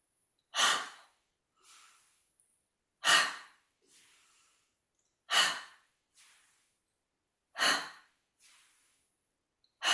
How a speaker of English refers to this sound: Now we're going to do it faster. So we slowly take them up and then we bring them down, okay? So breathe in and then breathing out as you bring your arms down.